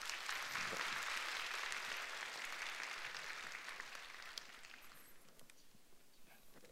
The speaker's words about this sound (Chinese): 我们用热烈的掌声欢迎他。